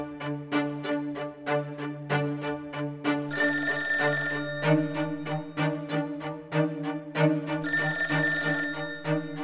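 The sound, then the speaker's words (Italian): A telephone bell rings in two loud, trilling bursts over a steady, rapid ticking rhythm, prominent, with no one speaking; the call comes from the police headquarters in Milan. “La mobile patavina continua a battere ogni strada percorribile quando dalla questura di Milano arriva una telefonata a cui segue un incontro.”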